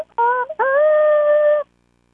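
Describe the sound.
A human voice imitates a rooster's crow through a paper towel tube, giving a loud, hollow, resonant two-part call: a short opening note, then a long sustained tone that cuts off abruptly.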